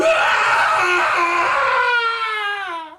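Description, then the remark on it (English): A man lets out a long, wild scream of agony, raw and rasping at first, then thinning into a wavering wail that drops off at the end. It is loud and alone. “the wee man emits a feral scream often heard from jungle cats in the depths of agony.”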